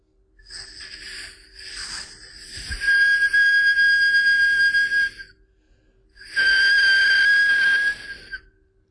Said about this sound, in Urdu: تو یہ ایک پین کا ڈھکنا ہے, اگر میں اس میں ہوا پھونکوں تو اس میں آسیلیشنز پیدا ہوں گی. دیکھیے, ایک خاص ٹون نکلتی ہے.